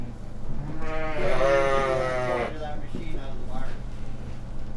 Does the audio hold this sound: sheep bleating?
yes